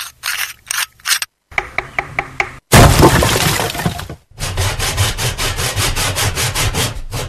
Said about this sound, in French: Ainsi discouraient en grand tumulte les outils du charpentier. Tout le monde parlait à la fois.